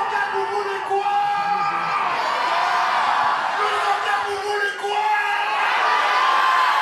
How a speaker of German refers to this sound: Aufgepeitscht von den jubelnden Fans im Saal, die nur eines wollen: La Bagarre, die Keilerei.